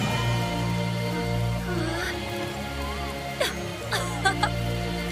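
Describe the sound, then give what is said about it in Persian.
A steady hiss of falling rain fills the whole stretch, with a low sustained tonal drone underneath and a few sharp splashy bursts near the end. “بی بارون کافیه.”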